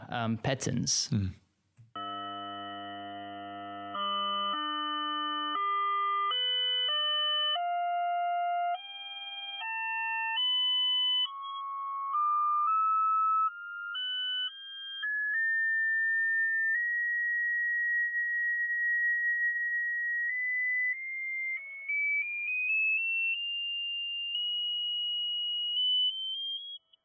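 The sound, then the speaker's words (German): After a short noisy burst, loud steady electronic test tones step upward in pitch, buzzy and rich at first, then a single pure tone glides slowly higher for nearly half a minute. The test frequencies are played through a plate, making it vibrate. “Jetzt kann man die Frequenz nicht mehr hören, aber die Muster bilden sich weiter.”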